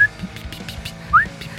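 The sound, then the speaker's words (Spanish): Someone whistles to imitate the beep a blood pressure monitor made when it finished measuring blood pressure: a brief high tone at the start, then a short upward-sliding whistle a second later, over a soft background hum. “Bueno, y bueno, al hacerlo, emití un pitido.”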